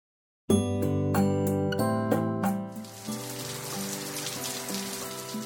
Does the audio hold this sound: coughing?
no